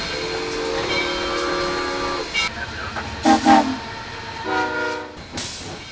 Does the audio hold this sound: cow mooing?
no